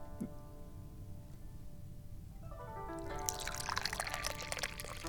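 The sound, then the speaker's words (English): Tea pours steadily into a cup, starting quietly and growing into a bright, splashing trickle with rising pitch as the cup fills, continuous over a low background hum. “So let's pour some more tea.”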